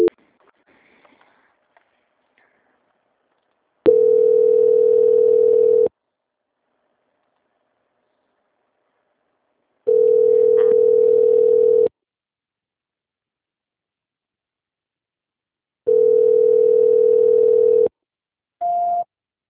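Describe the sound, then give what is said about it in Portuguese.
A steady telephone tone plays while a call is transferred to quality control, sounding in three evenly spaced two-second bursts separated by silence, ending with a short, higher-pitched beep; clear, with no voices. “Não desligue o telefone, tá? Só um minutinho. Transferência.”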